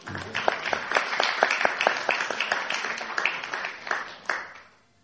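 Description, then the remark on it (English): A crowd applauds for those who did not go out on Sankirtan during December, many hands clapping in a dense, steady patter for about four seconds before quickly tapering off into quiet. “And if you did go out on Sankirtan during December, can you give a round of applause to those who didn't?”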